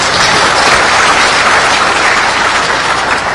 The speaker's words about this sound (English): First, I want to thank Dead Addict for being kind enough to switch slots with me. I wouldn't be up here if it wasn't for him, so let's give him a round of applause, too.